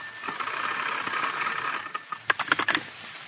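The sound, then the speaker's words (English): A field telephone set is cranked by Kobayashi on New Year's Eve, in the dark, on a line cut into the Japanese phone system: after a steady hiss, a quick run of four or five sharp, rattling bursts comes through a thin, narrow-band line, moderately loud and without any voices. “Then Kobayashi cranked his set.”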